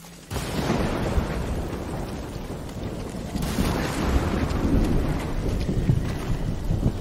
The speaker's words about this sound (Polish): Okej, patrzcie, jaki klimat. Jak leje.